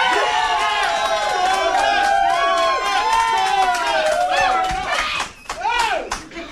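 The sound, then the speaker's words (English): A crowd cheers loudly, many high, shrill voices shrieking and whooping together in a sustained roar that dips briefly near the end before swelling up again. The audience is cheering to vote for the party of donuts in a debate, judged with a cheerometer. “Now, if you would like to vote number one for Cliffo's party of donuts, cheer right now.”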